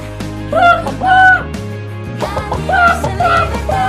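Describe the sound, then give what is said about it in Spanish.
Free-range egg-laying hens in Spain cluck in two clusters of short, nasal, rising-and-falling calls, loud, over a steady low musical background. “Las gallinas de Rujamar. Las mejores gallinas de España.”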